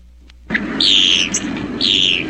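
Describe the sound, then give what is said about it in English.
A Bronx cheer raspberry: a loud, sputtering buzz lasting nearly two seconds, with shrill whistling overtones that rise and dip, briefly break, then return. No one speaks. “Somewhere along the line, you've picked up that well-known greeting, the Bronx cheer.”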